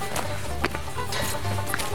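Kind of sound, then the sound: animal, cows walking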